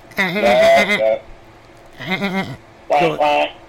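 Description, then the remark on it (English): A person imitates a goat, letting out three wavering, nasal bleats, the first long and the last two shorter, loud, with brief pauses between them. “I was getting ready to make goat noises again.”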